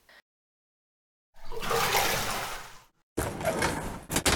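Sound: shower water running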